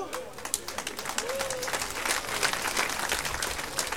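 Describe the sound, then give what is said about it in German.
A crowd at a performance by a band breaks into dense, sustained applause, many hands clapping at once in a steady patter that holds and swells slightly across the whole stretch, with a faint voice briefly audible underneath. “Normalerweise kommt an dieser Stelle wirklich ein ganz spontaner, donnernder Applaus für mich, denn so viel Schwachsinn muss man sich morgens erzählen, erst mal einfallen lassen.”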